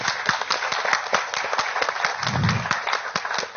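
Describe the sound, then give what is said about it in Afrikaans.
An audience claps for Saartjie Botha in a dense, steady wash of overlapping hand claps, sustained at an even, moderate loudness throughout, with no voices rising above it. “Saartjie, jy is 'n ster, en ons verdien, jy verdien aan dit klap.”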